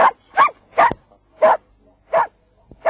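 A reindeer-herding laika named Altai barks six times in a steady, insistent rhythm, each bark sharp and loud, with no other sounds around it.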